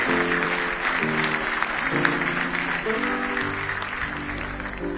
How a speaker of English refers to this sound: Are you glad God's got something better for you? Give him another big hand clap of praise if you love him tonight.